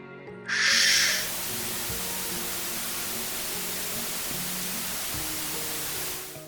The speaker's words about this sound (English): His speaker suddenly grew louder with the crackle of white noise.